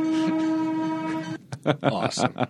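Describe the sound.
An Oregon Pacific (East Portland Traction Company) freight train sounds its horn in one loud, steady blast lasting just over a second, then cuts off, followed by brief bursts of talking and rumbling noise.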